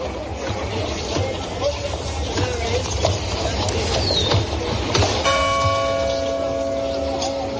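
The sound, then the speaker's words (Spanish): Outdoor village street ambience with a low murmur, faint voices and footsteps, hardly any cars, then a church bell strikes once about five seconds in, its rich metallic tone ringing out and lingering to the end. “La campana, el sonido de las pisadas en la calle, apenas coches.”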